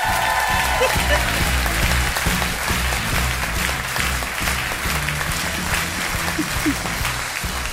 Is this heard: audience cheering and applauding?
yes